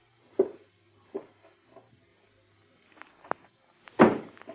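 A handful of muffled footsteps of a man taking a drink straight to the bedroom thud unevenly across a floor, with pauses between them and a heavier, louder step near the end. No one speaks.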